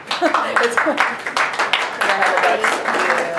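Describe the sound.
A small group breaks into scattered clapping that runs steadily throughout, with several voices talking and murmuring over the applause.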